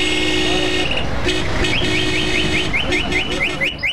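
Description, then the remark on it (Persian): Car horns blare over a loud, constant wash of street traffic outside Zarnegar Park: a long sustained honk first, then a run of short, repeated horn blasts and beeps overlapping one another. “اما بیرون از پارک همان سر و صدا و همان هارن موترها.”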